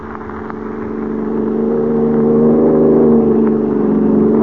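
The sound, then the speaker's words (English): A car engine steadily builds in pitch and loudness as the car accelerates at speed, a sustained roar with a rising whine and no voices over it. “They've got a fast car, but we're stepping right along.”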